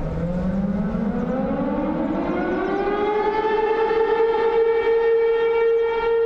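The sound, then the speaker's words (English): A loud civil defense siren, the only one of its kind left in the country and used by the town as a lunchtime whistle, winds up from a low groan to a steady high wail, its pitch climbing over several seconds and then holding, with no voices present. “This siren is the only one of its kind left in this country.”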